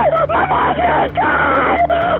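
A woman screams frantically over a phone line, shrill, strained cries in several loud bursts with brief breaks between them, sounding thin and band-limited like a call recording.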